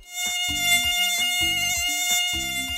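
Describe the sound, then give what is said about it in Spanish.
A steady, high-pitched whine of an Aedes aegypti mosquito, the kind that transmits dengue, drones loud throughout, with low rhythmic thumps pulsing beneath it roughly once a second. No one speaks. “Hoy aprenderemos del zancudo que transmite el dengue.”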